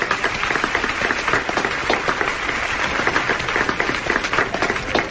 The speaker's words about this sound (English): let's hear your applause.